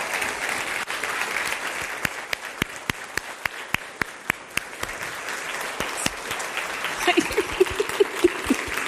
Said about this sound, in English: Please give a round of applause to Dr. Jemison.